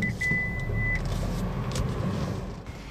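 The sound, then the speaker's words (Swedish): A car's interior hum with steady low engine and road rumble as the car drives to Ingo, a thin electronic beep tone sounding briefly near the start, with no one speaking. “Så nu ett hopp in i, nej, inte båten, men bilen och raka rör till Ingo.”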